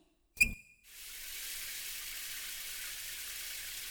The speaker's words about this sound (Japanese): すぐにシャワーを流しますね。